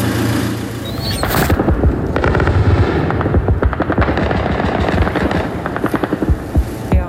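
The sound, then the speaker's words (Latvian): A loud, continuous engine drone fills the sky over Kyiv shortly before 7 a.m. during an attack by Shahed combat drones, while rapid bursts of automatic gunfire crackle and echo over it in irregular volleys, with no voices. “Pēcāk vēl bija vairākas gaisa trauksmes, kur laikā bija arī ļoti spēcīgs uzbrukums ar šahed kaujas droniem.”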